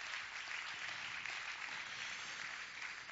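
A church audience applauds its pastoral staff steadily, a dense wash of many hands clapping at once with no pauses, moderately loud and filling the space throughout.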